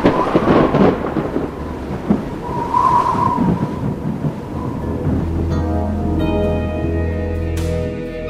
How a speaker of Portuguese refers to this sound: Eu acho que veio uma chuva bem forte por aí. Nossa, é mesmo. E pelo jeito a coisa vai ser feia.